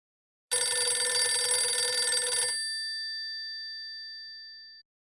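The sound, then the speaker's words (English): A single loud burst of an old-style telephone bell, a rapid metallic trill lasting about two seconds, then its ringing tone lingers and fades out. Clear, with no voices. “Mom, comma, please answer the phone.”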